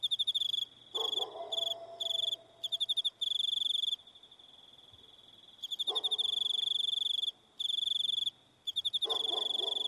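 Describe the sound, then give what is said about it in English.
Crickets trill loudly in a steady, high-pitched pulsing chorus, broken by short pauses, with some lower intermittent rumbling and a faint hum in the background. No voices. “The darkness of crickets trilling, shining.”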